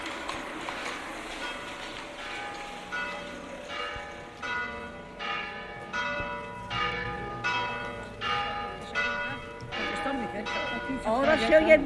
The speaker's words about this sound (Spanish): Ahora se oyen menos, porque las campanas, ahí arribita hay una. Y aquí en esta calle de atrás hay otra una iglesia de las monjas.